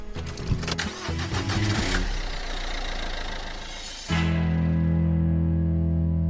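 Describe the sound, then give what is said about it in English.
A car engine cranks with a rapid, stuttering starter rattle, then catches and settles into a steady, loud idle hum that continues to the end. “We're back on The Debrief and we're in the car.”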